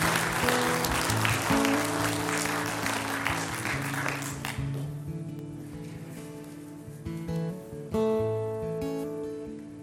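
An audience claps in dense, steady applause for about four seconds over sustained organ-like music, then the clapping fades away and the music carries on alone.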